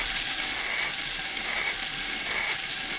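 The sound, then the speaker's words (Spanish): A lottery drum turns continuously, its balls tumbling and clattering in a dense, steady rattle of bright clicks that holds at an even level for the full three seconds, with no voices. “Lo he dado tan tarde el teléfono para el bombo”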